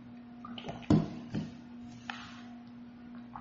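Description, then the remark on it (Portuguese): Someone drinks water, with two soft gulping or sipping sounds about half a second apart over a steady low electrical hum. No one speaks. “Já está abrindo, vou até tomar água.”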